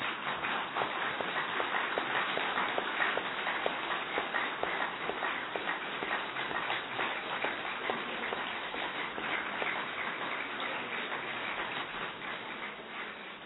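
A group of people clapping their hands together before a yoga practice session: a dense, steady patter of many overlapping claps that keeps going for over ten seconds with no talking, easing slightly toward the end.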